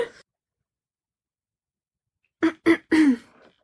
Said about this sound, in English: Just every time before your part, you go and clear your throat. Because I'm always scared I have, like, a sore throat.